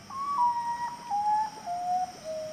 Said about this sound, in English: The common potu, a nocturnal bird of tropical Central and South America.